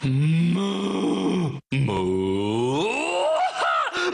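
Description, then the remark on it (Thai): A cow moos loudly twice with barely a pause between: a long, low, droning call, then a second that climbs in pitch and wavers toward the end. No talking. “ถ้าผมฟังไม่ผิดมันเสียงเหมือนวัวประท้วงนะครับ”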